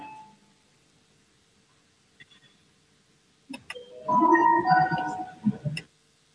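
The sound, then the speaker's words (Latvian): An electronic bell chime in a parliament, calling members to vote on a proposal, plays a short melodic run of bright tones. It is fairly loud, lasts about two seconds, and comes after a quiet stretch with a few faint clicks. “Lūdzu, zvanu, balsosim par 258. deputātu Teirumnieku priekšlikumu.”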